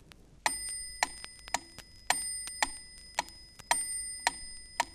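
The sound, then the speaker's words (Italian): A bright small bell rings in a steady ternary cadence, one strong strike followed by two lighter ones, repeating clearly with no voices. “Ascolta le due cadenze ben distinte dal suono del campanello.”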